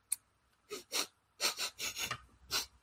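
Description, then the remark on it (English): A person makes a series of exaggerated, loud sniffs, about eight quick breathy bursts in uneven clusters, as if theatrically sniffing the wind. No talking. “That's … sniffing the wind.”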